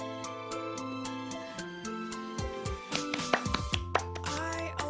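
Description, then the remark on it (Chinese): A quick series of sharp hand claps by one person clapping for himself as he welcomes viewers to his new livestream room, evenly spaced at first and then looser and more scattered, heard over a steady tonal musical background with no talking. “不鼓掌，我自己来。”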